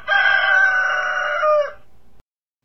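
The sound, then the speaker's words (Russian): A neighbour's sleepy rooster, having flown up onto a fence with flapping wings, crows loudly and hoarsely, one long raspy cock-a-doodle-doo lasting well over a second before cutting off into quiet. “На забор, захлопав крыльями, взлетел соседский заспанный петух и хрипло пропел свое.”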